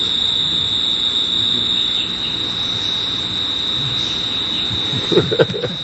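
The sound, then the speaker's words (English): A cricket trills nonstop on one steady high pitch, loud and unbroken from start to finish, over a low background rumble with a few soft knocks near the end. “Our cricket is back.”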